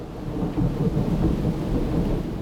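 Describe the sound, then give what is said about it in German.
Heavy rain pours down steadily in Spain with a deep, continuous rumble of thunder beneath it, a dense, loud storm with no voices. “Während in Frankreich SportlerInnen um Medaillen kämpfen, regnet es in Spanien wie aus Eimern.”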